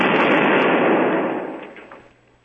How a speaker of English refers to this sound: I don't like explosions, okay?